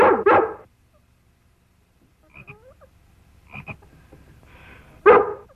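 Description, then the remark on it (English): Lassie the dog barks loudly to make a frog jump, once at the start and again near the end, with quieter croaking, squeaky sounds in the pause between. “We trained him to jump when Lassie barked.”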